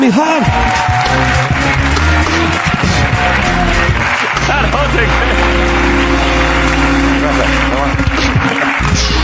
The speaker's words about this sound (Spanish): Vale, pues un aplauso para